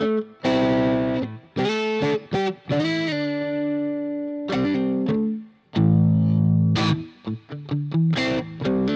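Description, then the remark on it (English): Electric guitar played on both pickups through a MIDI-equipped distortion pedal with a moderate, crunchy, Fender-like medium clip, picking short chords and sustained notes in bursts with a brief pause midway, fairly loud. “gets that nice like medium clip like a Fender.”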